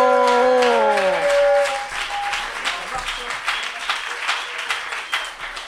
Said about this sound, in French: On l'applaudit très très très très très très très très fort.